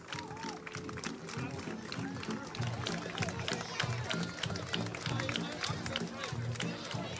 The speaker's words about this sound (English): is absolutely splitting the stones here in Grange, and a massive crowd, a massive turnout to welcome Mona. She's leaning out the window there with the Irish flag and her bronze medal around her neck. Listen to that crowd roaring to welcome Mona home.